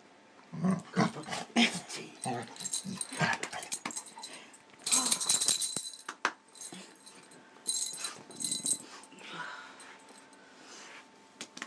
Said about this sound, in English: He's got some parrot bells on his collar, that's why the collar sounds a bit different.